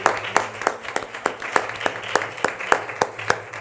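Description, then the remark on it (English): An audience claps hands together in praise to the Lord after a prayer, in quick, uneven bursts, the sharp claps overlapping into a steady patter of applause with a faint hum of voices underneath. “Let's give the Lord another hand clap for praise.”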